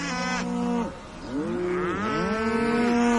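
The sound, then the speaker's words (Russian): A bull bellows in long, loud, droning calls, several overlapping low moos with rich harmonics rising and falling in pitch over a few seconds, with no talking. The bull is pressing its horns against the locked gates of a cattle yard and tearing at the ground with its hooves. “Упрется рогами в запертые ворота скотного двора, рвет копытами землю и ревет.”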